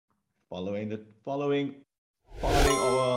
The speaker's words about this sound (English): I'm going to ring our bell.